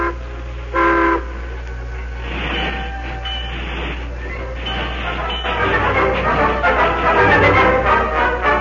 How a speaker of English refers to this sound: Then the train rolled on.